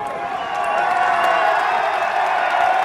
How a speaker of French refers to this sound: Je rentre dans la mairie. Sous les applaudissements de la foule. Avec des gilets jaunes.